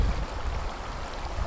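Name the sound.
water flowing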